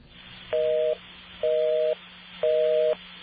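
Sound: telephone number being dialed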